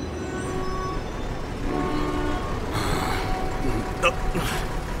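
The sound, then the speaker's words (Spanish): A train rumbles steadily as it comes to a stop at the last station after a three-hour trip, with thin whistling brake tones and a couple of sharp hisses of released air near the end. “El tren se detuvo en la última estación.”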